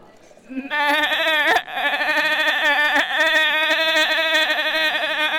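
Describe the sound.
A voice imitates a sheep, producing a long, loud, wavering bleat, with a brief break midway before the quavering cry continues for several seconds.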